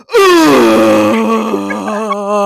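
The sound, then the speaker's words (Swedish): A voice imitates a possessed, Exorcist-style groan: one long, loud, strained wail that starts high, slides down in pitch and holds a rough, throaty drone for over two seconds. “Då gör hon liksom exorcisten-ljudet.”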